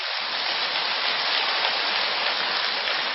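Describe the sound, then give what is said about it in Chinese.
Loud, sustained applause from a large crowd of Xinling Fameng practitioners clapping at their teacher's request, a dense hiss of many hands clapping at once that holds steady throughout, with no voices standing out. “如果还想改的人就跟我鼓掌鼓了响一点。”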